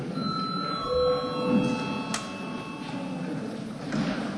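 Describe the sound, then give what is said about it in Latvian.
The session bell of the Latvian parliament (Saeima) rings with steady, sustained tones that hold for several seconds as the session breaks and registration mode is called, joined by a brief sharp click midway, over a faint murmur of room noise. “Lūdzu zvanu.”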